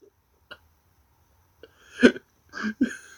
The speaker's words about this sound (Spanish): Sí, yo creo que se escuchó un ronquido.